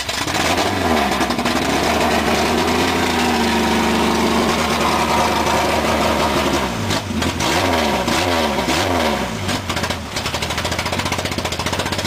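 A Honda DC5's engine runs loudly and continuously, holding a steady, buzzy drone for several seconds before repeatedly revving up and down in rising and falling sweeps, with no talking.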